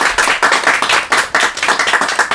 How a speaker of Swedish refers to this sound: Välkommen hit alla 4 och välkommen alla som sitter i studion. Ni kan väl testa och applådera så får vi se att ni hörs ute.